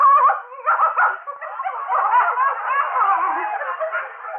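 A small dog named Edwina yips and whines almost nonstop for a few seconds, fairly loud, its high-pitched cries running together with no one speaking.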